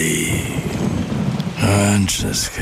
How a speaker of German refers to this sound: Ja, ja. Regen. Ewig grau. Müssen Sie sich das anhören?